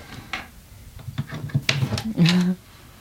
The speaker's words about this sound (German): Also können wir die Schublade mal aufziehen? Also, ja. Wenn ich hier mal einen Schlüssel mir hole. Also hier nicht, aber hier unten.